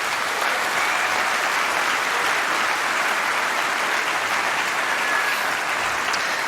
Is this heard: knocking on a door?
no